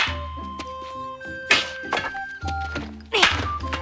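A ball is kicked twice during ball practice, each a dull, punchy thump about two seconds apart, over steady background music with sustained tones.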